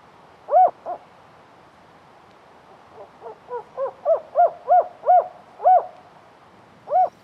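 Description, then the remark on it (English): A series of spotted owl hoots in an old-growth forest park: two isolated calls, then a rising run of about eight quick hoots, then a final hoot, moderately loud and clear against a quiet background. “If you're lucky and patient, you might get to hear the haunting calls of the spotted owl.”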